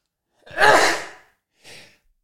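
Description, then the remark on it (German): A single loud sneeze in a studio, a breathy, voiced burst lasting under a second, then after a short pause a fainter, brief sniff-like exhale. No one speaks. “Der Satz stößt mir so auf, dass ich direkt schon niesen muss.”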